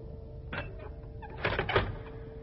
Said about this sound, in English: It is time for us to go out. Open the door.